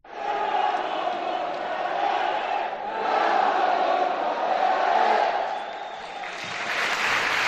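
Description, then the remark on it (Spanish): A crowd of 4,086 stadium fans shouts and cheers continuously, a loud roaring wall of voices that swells and dips slightly, with a brighter burst of cheering near the end. “Eran 4.086, pero prácticamente con las ganas con las que gritaban y la cosa contenida de tantos meses salía ayer y la verdad es que parecía que había 20.000.”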